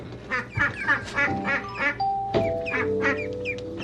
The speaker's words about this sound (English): These are ducks. And the tall one is Helen. And this one is George. Hi, George. Hi, Helen. Want to come out for a minute? Mr. McFeely asked me to keep the ducks for a while today.